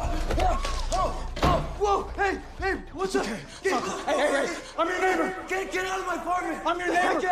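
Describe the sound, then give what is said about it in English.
A door bursts open with a single sharp, loud bang near the start as a man bursts into an apartment, followed by several people talking excitedly over one another, with some chuckling. “He stumbles back inside as a guy bursts into the room.”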